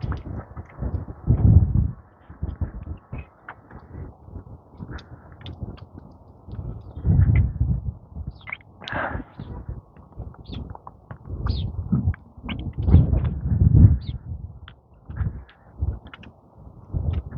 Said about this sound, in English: Lots of birds moving around here this morning. Sparrows. I think there's a couple robins with those blue jays.